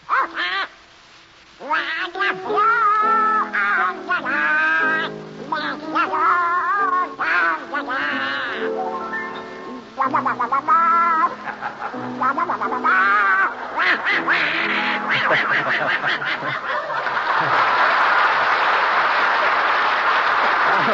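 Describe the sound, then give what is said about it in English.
A raspy, quacking Donald Duck voice sings a tune on a radio show in rapid, choppy bursts, loud, before giving way to a wash of noise at the end. “Little, Donald Duck, you've denied being the worst singer in the annals of radio. All right, prove it. Sing.”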